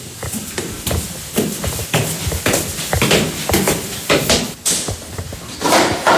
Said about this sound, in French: Ça, c'est la porte de l'usine de mon grand-père qui a été faite en 1930. Je l'ai récupéré, donc il y a ses initiales, Benet Ferdinand. Ferme la porte ici, vous.